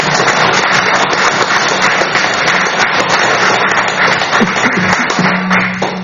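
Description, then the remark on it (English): The public gallery at a council meeting applauds Ms. Rogers steadily for about six seconds, a dense, loud crackle of many hands clapping at once, easing off slightly at the very end. “I do applaud your enthusiasm in the round of applause for Ms. Rogers, but if you could please refrain from participating from the meeting from the public gallery, it would be appreciated, because it will delay proceedings somewhat.”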